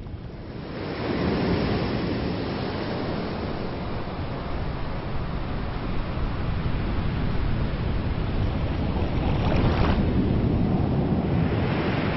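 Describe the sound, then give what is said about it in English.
A deep, continuous roar of heavy surf from large ocean waves, formed by a storm swell, breaking on South Pacific islands, big waves crashing and churning with a rushing swell near the end, loud with no voices. “Some of the largest waves in the world break on South Pacific Islands.”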